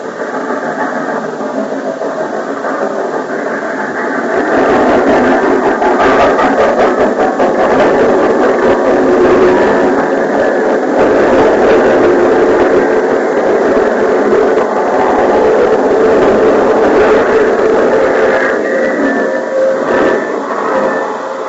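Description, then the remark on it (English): A train engine idles at a platform, a steady, loud rumbling drone with a hissy, faintly squealing upper layer that holds unbroken for about twenty seconds, with no voices. “Are you getting on the train with me?”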